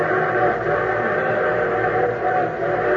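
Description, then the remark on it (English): A train whistle blows in one long, unbroken tone, steady and fairly loud, with a low rumble beneath it and no voices. “Well, your train whistle sounds closer.”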